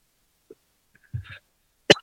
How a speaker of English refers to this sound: And take a little cup of coffee and really got to find a cough button for my microphone here.